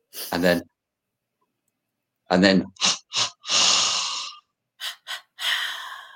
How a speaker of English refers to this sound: Because I have to make this sound, you see, and I'm just wondering if it will have noise cancellation. Okay, so it's 3 times through the nose like this. Sniff, sniff, sniff.